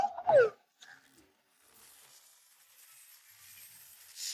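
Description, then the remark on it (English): A puppy trying to dig gives a short, high whimper that slides downward, then a fainter second whine follows. Soft, steady scratching, like small paws digging, continues afterward with no talking. “The puppy is trying, but he can't quite manage it.”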